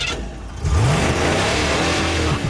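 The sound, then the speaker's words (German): A sports car engine idles with a low rumble, then revs up sharply and holds a loud, throaty roar, with harmonics rising and settling. No one speaks. “Wenn nicht nur Sportwagenhersteller sowas wie hier an den Start bringen,”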